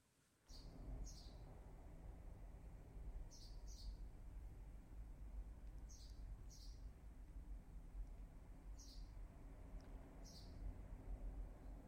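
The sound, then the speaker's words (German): A recording of birds chirping in short, high double calls that repeat every couple of seconds, rising above a steady, low rumbling background of wind or traffic. No one speaks. “Vogelgezwitscher mit Meinungsgeflüster.”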